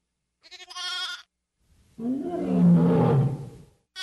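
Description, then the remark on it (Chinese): A brief, high-pitched lamb bleat is followed after a pause by a deep, rumbling lion roar as the lion seizes a lamb from the flock; the roar swells loudly, then fades out. No one speaks. “哎呀，不好了，狮子，他抓走了我的一只小羊啊！”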